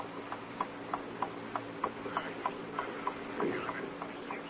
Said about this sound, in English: I will place the mantel clock on the desk so you can see it and hear it. You have 2 short minutes.